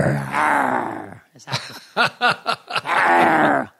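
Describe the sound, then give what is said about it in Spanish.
A person imitates the growling grunts they make during orgasm: a long rough voiced groan, then a string of short throaty bursts, then another sustained growl, fairly loud. “A mí me han dicho que gruño.”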